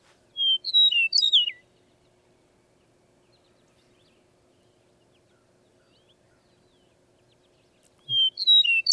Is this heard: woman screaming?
no